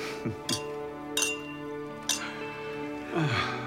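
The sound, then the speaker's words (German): Filled glasses clink in a welcome-home toast as three people stand up: several bright glass clinks ring out one after another, sharp taps with short shimmering tails, over a faint steady background hum with no talking. “Mit gefüllten Gläsern stehen die drei auf.”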